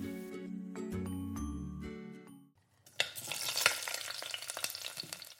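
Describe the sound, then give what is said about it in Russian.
A short stretch of tonal music gives way to steady sizzling and crackling as berry pancake batter, spooned into a preheated pan greased with a little vegetable oil, fries, filling the last few seconds with dense spattering. “Выливать тесто на сковороду ложкой и жарить с двух сторон до готовности.”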